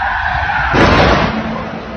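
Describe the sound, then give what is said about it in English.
A stolen car peels away with tires squealing, a loud rough burst of skidding noise starting partway through and carrying on as the engine pulls off. “Somebody just stole She's stealing their car. He's stealing the car.”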